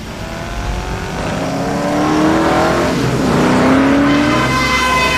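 A car engine revs hard and speeds up, its rising whine climbing in pitch as the vehicle accelerates loudly, with no voices.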